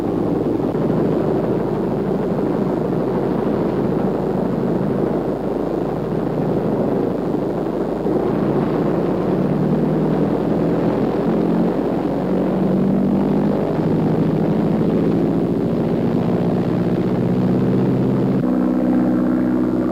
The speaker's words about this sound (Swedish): Den hypermoderna flygkameran lastas ombord på planet som sedan ska surra iväg för att ta närgångna bilder av flygstrategiskt viktiga punkter.